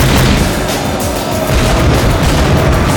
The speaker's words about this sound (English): She turned the motorcycle in an almost too fast arc and activated the high explosive grenades in the rear weapons pods.